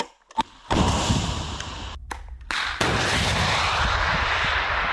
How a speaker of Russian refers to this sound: Группа военнослужащих собралась вокруг пусковой установки противотанкового комплекса «Метис». Короткий инструктаж, установка ракеты и выстрел.